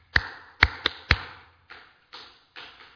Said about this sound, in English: And the kids are all excited, and they're coming in, and so I have this little clap that we do to kind of get their attention.